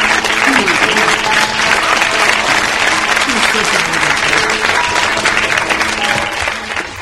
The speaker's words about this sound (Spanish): Tomaos un momento y dedicaos un buen aplauso.